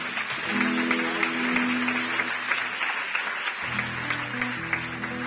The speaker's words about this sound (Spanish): Un aplauso, que se lo merece.